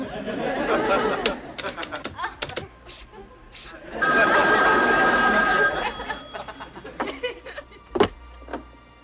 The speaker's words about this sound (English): Hello? Why do you keep answering the phone? You keep calling.